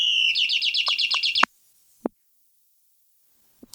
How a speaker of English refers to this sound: Not a real bird. It's one of those birds you plug in an electric socket. But it would sing all day if we let it.